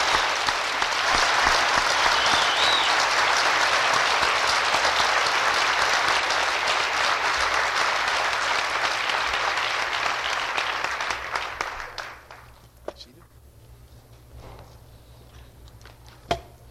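Sustained applause from a large audience at a graduation ceremony for the college's degree recipients, a dense, even wash of clapping that holds steady for about twelve seconds before tapering off into a few scattered claps and quiet.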